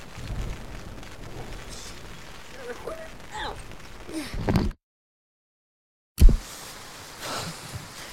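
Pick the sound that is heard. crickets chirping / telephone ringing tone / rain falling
rain falling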